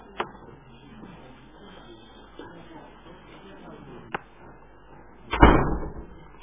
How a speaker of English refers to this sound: Oh, please close the door behind me.